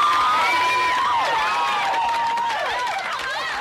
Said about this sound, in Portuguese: É isso aí, uma salva de palmas. É isso aí.